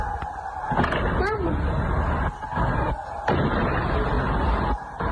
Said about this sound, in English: But this footage sent to us this evening from outside a detention centre in the west of the city has what sounds like gunfire.